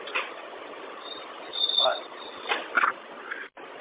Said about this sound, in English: If you can hear that squeal, it's the upper pivot arm on my front door. It's like squealing so bad when I open and close it, it's painful.